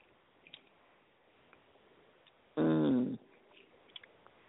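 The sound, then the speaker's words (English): Someone takes a single short sip of iced pink lemonade with a lot of ice in it, a loud slurping draw lasting about half a second, set between faint scattered clicks. “I'm going to take a sip.”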